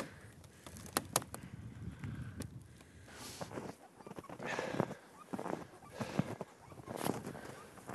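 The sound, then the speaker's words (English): Trees crack and creak in the cold of the North Country: a few sharp, irregular snaps early on, then drawn-out groaning creaks rising and fading over a steady windy hiss, with no one speaking. “It's quiet enough that I can hear that real North Country sound, which is the trees kind of cracking and creaking with the cold.”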